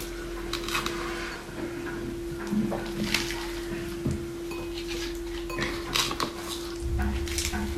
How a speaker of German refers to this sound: Mein Mixer hier ist relativ klein, deswegen drücke ich das immer mal wieder so ein bisschen nach unten.